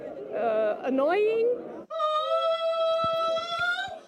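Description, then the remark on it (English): A person imitates a seagull's screech at the fifth annual European Gull Screeching Championship, with two loud, strained, nasal calls: a first wavering cry that bends in pitch, then a long, steady, piercing squawk held for about two seconds. “This was the fifth annual European Gull Screeching Championship, attracting 60 seagull sound-alikes from 14 countries.”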